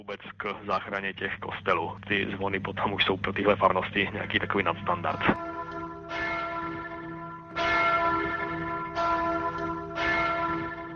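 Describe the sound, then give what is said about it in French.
A voice talks over a low hum, then a church bell rings out loudly, several resonant strikes with long shimmering decays ringing on into each other. “La cloche est un luxe en effet dans ces coins-là.”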